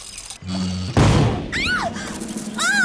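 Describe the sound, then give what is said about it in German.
A toy ship cannon, wound up with a key, fires with one sudden, loud boom that rumbles briefly, preceded by a low mechanical hum and followed by several swooping, falling whistle-like tones. “Was für ein gewaltiger Rums!”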